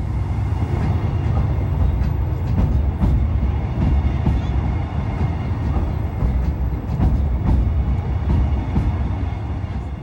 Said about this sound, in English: And just as we were crossing, a train came past, which was perfect timing.